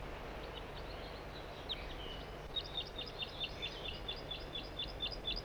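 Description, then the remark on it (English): A crossbill sings a quick, steady series of high, sharp chirping notes from way up in the top of a dead tree, preceded by a few scattered calls, all over a constant background hiss with no voices. “Those birds are still singing here.”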